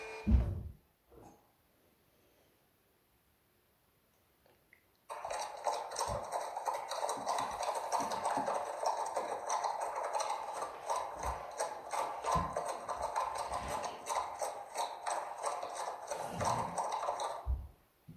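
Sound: horse hooves clip-clopping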